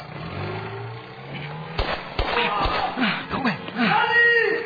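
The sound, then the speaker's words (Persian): A motorcycle engine coughs to life with a few sharp bursts, then revs unevenly while voices talk and exclaim over it. “به محض اینکه موتور رو روشن کردم بزن.”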